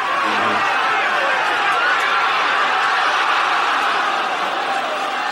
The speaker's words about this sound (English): It's like the crowd was so loud that the earth was shaking and the ball went in. Listen to how the crowd goes silent because they think the shot has ended.